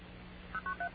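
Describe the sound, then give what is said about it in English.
Four short touch-tone dialing beeps in quick, even succession, each a crisp two-note electronic chirp, following a stretch of steady low hum with no talking. “Aren't those neat little beeps?”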